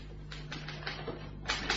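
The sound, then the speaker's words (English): Mr. Sloan's typewriter clacks away below deck aboard a ship in a quick, uneven burst of keystrokes, moderately quiet, over a faint steady hum with no voices. “Sloan and his typewriter.”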